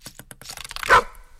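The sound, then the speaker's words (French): A single sharp dog bark rings out clearly after a short run of light, rapid clicking taps, then quickly fades into quiet. “Le chien.”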